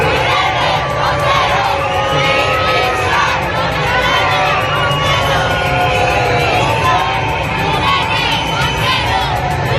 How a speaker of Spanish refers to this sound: La marcha más multitudinaria ha sido la del movimiento feminista de Madrid, con 12.000 personas. En algunas protestas se han sucedido gritos reclamando la dimisión de la ministra de Igualdad, Irene Montero.